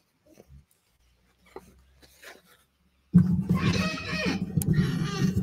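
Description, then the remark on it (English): After a few seconds of near quiet with faint soft noises, a puppy suddenly breaks into loud, sustained grumbling whines, continuing without pause to the end. “You doing okay, puppy?”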